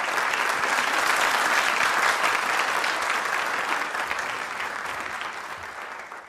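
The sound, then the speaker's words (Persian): Sustained audience applause, a dense wash of many hands clapping at once with no clear individual beats, holding steady and then gradually tapering off toward the end. “بفرمایید، تشویقشون کنین لطفا.”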